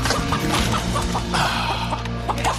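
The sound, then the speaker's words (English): A chicken being chased by a man trying to catch it clucks over and over in quick, uneven bursts, fairly loud, with a steady low hum underneath and no one talking. “In that moment, it was just man versus fowl.”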